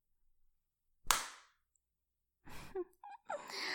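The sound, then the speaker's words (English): A single sharp, loud slap rings out, fading quickly; after a brief silence, a voice lets out breathy gasps and a whimpering cry. “Do you need a slap or two to keep you in line?”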